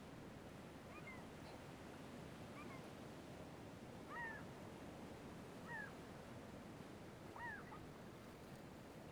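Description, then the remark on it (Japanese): Black-tailed gulls give about five drawn-out, mewing cries at a steady pace over a constant roar of ocean waves and surf. “海猫、泣いてるね。”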